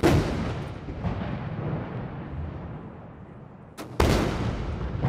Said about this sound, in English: China celebrated its 70th birthday today. 56 cannons fired 70 times in Tiananmen Square.